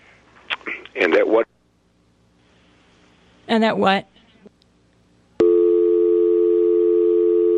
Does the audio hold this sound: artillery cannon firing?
no